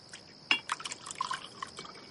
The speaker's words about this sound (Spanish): Esa noche, Babirusa cena con su abuelo y su tía. Al oír a su abuelo sorber la sopa, el joven siente repugnancia y lo contempla lleno de furia contenida.